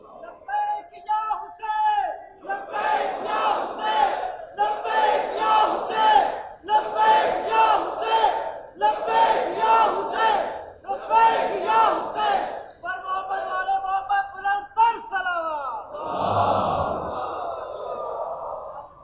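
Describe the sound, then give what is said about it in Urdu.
A large crowd chants religious slogans in unison: about six loud, rhythmic bursts roughly two seconds apart, forceful, ending in a longer swelling roar of voices. “اگر نعرہ لگانا ہے نا تو نعرے کو نعرے کی طرح لگائیں، ہاتھوں بلند کر کے میں نعرہ لگاؤں گا، آپ جواب دیں گے، بالکل ہاتھوں بلند، مٹھی کو لہراتے ہوئے،”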